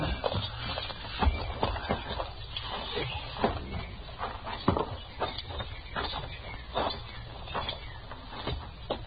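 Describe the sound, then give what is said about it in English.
Horses' hooves clop steadily on hard ground as the horses pull up to a stop, a busy overlapping patter of hoofbeats with occasional sharper knocks, heard on their own without any voices. “Now, let's pull up here. The horses will stand.”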